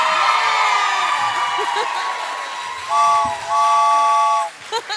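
A train whistle sounds in two sustained blasts, a short one followed by a longer one, loud over a busy background of crowd murmur and chatter.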